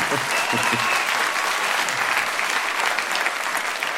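Steady audience applause, a dense wash of many hands clapping at an even level for the whole stretch, with a few lower murmurs early on.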